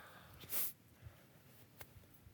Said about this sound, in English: Keep sniffing, and I hate it because it comes through on the recording. I just sound like a sniffling sniffer.